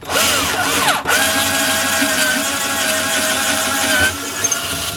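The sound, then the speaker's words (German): A power drill whines up to speed, pauses for an instant, then runs steadily for a few seconds before cutting off, with faint whirring after, while drilling one of six holes on a boat to fasten boards to the stern rail. “Jetzt müssen wir da noch bohren. Ja. 6 Löcher.”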